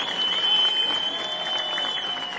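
An audience applauds the Concordia per Belluno Dolomiti steadily, a dense even patter of many hands clapping throughout, with a thin high-pitched tone running faintly underneath.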